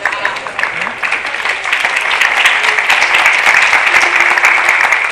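Sustained clapping applause from a group of boys after a wrestling bout, a dense crackle of many hands that holds steady and grows slightly fuller over several seconds, with no talking.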